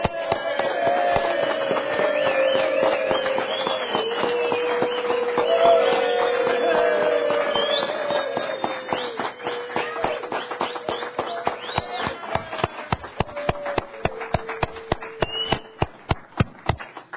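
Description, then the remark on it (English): The members of a legislative House break into loud, dense applause to say goodbye to a departing colleague, with a few voices calling out; the clapping then thins into scattered individual claps before fading away. “So at least give her a round of applause.”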